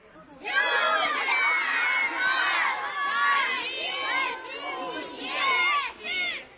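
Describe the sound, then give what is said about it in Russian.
A large crowd shouts and cheers together in loud, overlapping bursts of many voices, swelling and dipping in waves for several seconds. The audience fills a forest and joins in a Belarusian-language folk play. “Шматликая публика, якая наполнила лес, так само подхопливала мовную гульню.”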